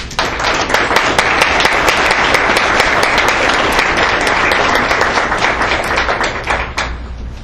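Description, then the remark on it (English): An audience applauds steadily for several seconds for three gold medal-winning students who represented Kenneth in Austin, a dense wash of many hands clapping with a few sharper claps standing out, holding loud and then easing slightly at the end. “So please let's give them a round of applause.”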